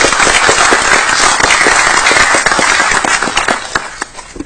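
Dense audience applause at a meeting where ordinances are introduced, for state Representative Michael Barbieri, a steady crackle of many hands clapping at full strength, then thinning out slightly toward the end.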